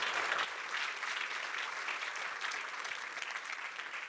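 An audience applauds steadily, a dense wash of many hands clapping at a fairly even loudness throughout, with no voices standing out.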